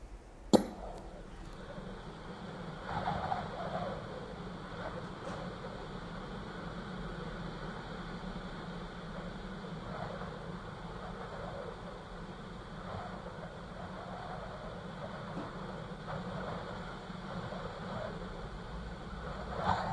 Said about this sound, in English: So we're just mucking around with the Pure Sensio radio, and we've just come across the Pure Sounds, and here's some of the sounds. That's white noise. Now let's try whistling wind.